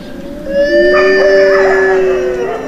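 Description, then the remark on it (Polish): Wolves howling together in Puszcza Zielonka forest, Wielkopolska, Poland: several long, smooth, overlapping wails that rise and hold steady in a clear, loud chorus, with no talking. “bo być może niektóre wilki tutaj wyją po niemiecku”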